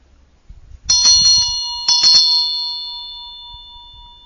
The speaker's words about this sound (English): So the Vajra bell, the bell is a wake-up call. It's a reminder to stop, look, listen, to be present, be aware, come back to yourself.